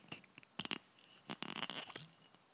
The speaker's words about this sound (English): So, here we are. I thought I'd better try open a bottle. Here we go.